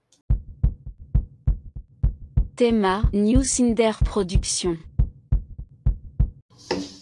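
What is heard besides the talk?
heartbeat sound effect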